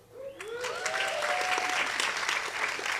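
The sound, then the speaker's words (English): An audience breaks into applause, a dense wash of clapping that swells within the first half second and holds steady and loud, with a few whoops and cheers rising over it early on. “It actually says right here, pause for applause.”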